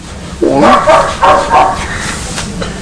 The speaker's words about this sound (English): Well, that dog's noisy, isn't it?